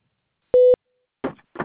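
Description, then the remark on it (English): A single short electronic telephone ringing tone of an outgoing call, a steady loud beep as the call to a Mercury representative connects, followed by a couple of brief, muffled voice-like sounds. “Okay, because it looks like it might be calling.”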